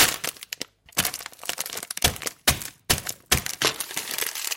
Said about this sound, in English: What I'll do is I'll actually smash them up a little bit. It'll just be easier to mix them through. I'll get a little rolling pin and smash it up a little bit. Make sure you open it a little bit, otherwise the bag might just explode.